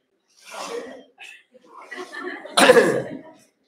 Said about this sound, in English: Are you quite finished, everyone? I feel like I'm a doctor and I'm listening to my surgery. Any more coughing, sneezing, anything? Thank you. Quick sneeze.